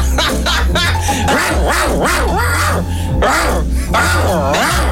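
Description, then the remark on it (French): A man growls and yelps like a dog in a string of rough, rising and falling loud bursts over a steady low hum, growling to drive a cleaning woman away from his room. “s'exprime à sa manière, c'est-à-dire en grognant, pour repousser la technicienne de surface qui, selon lui, n'a pas nettoyé sa chambre.”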